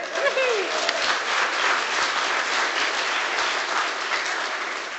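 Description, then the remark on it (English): Sustained applause from a crowd, a dense steady wash of many hands clapping at once, loud and continuous for the full five seconds, with a faint voice briefly audible near the start. “Nobody's probably clapping louder than my husband Simon”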